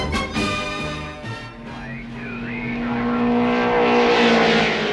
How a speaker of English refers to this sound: Gee, Mr. Lester, it sure is fun to go to all these car races now that summer vacation's here.